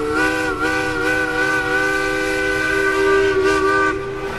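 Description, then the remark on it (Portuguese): A loud, sustained steam whistle blasts steadily for several seconds, its rich chord of tones ringing over a hissing, rumbling background as a steamship signals departure, carrying the Santa Cruz football team from Pernambuco toward the north of Brazil. “E esse som da partida do navio a vapor soava como um chamado para uma nova aventura nos campos.”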